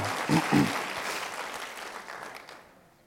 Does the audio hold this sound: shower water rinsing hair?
no